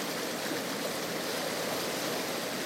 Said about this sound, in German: Was hier ist sehr gut, ist, dass gar kein Verkehr ist. Wenn der Fluss stärker ist, dann kann man die Wellen hören. Wunderschön.